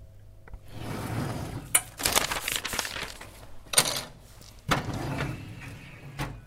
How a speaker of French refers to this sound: ouvre le tiroir. Attrape deux feuilles de papier et un crayon.